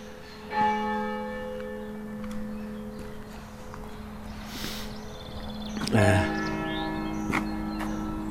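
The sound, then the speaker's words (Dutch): A church bell in Hoog Elte strikes nine o'clock; two heavy, widely spaced strikes are heard, each leaving a long, humming ring that hangs in the air between them; no one speaks. “9:00 slaat de klok.”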